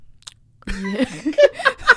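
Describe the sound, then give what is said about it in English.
A voice mimics gum chewing ASMR-style right into the microphone: after a short silence, a burst of wet, smacking mouth sounds in a quick, uneven rhythm, fairly loud. “Chewing some gum. That's disgusting.”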